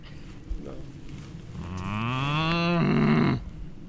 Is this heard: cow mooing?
yes